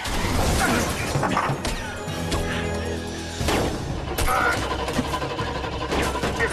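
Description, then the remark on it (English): A heavily bulletproofed car reversing at speed on a quayside smashes into a gateway amid a loud, chaotic din: an engine roars under sharp crashing impacts, with bursts of gunfire from several vantage points, intense throughout. “He smashes into a gateway.”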